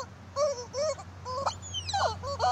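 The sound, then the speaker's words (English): A horse lets out a string of drawn-out, wavering moans that bend up and down in pitch, with short breaks between cries and a steady low hum underneath. No one speaks. “I'm like, I gotta shoot this horse if it doesn't stop making this noise.”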